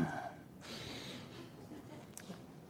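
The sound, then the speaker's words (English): A person imitates the frustrated heavy breathing of a user during user testing: a long, forceful exhale, a few rough breaths and a sharp snort-like gasp near the end, with no words spoken. “And they breathe like that, and you know that there's something wrong, right?”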